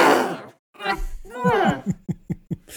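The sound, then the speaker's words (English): A voice imitates the muffled yell of a creature that has just been sliced deeply: a breathy rush, then a strained, wavering groan that rises and falls, ending in a few short choked grunts. “So it doesn't cut it off, but it does slice it deeply, and you just hear this muffled yell like...”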